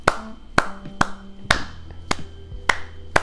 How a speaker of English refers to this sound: If you guys could just clap to yourselves, I'll give you a second. I guess I can clap along with you. Ready? One, two, and...